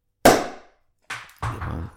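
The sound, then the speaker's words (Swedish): A wine bottle is opened with one sharp, loud pop that quickly fades, followed after a pause by two shorter, softer scraping bursts. No one speaks. “Ja, nu ska vi öppna den här. Vi sparar det för ljudets skull.”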